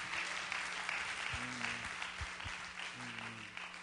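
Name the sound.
audience clapping hands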